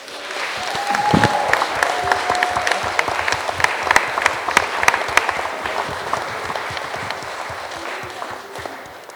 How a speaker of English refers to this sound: So can we have a round of applause for everyone that has been involved in making our day so special?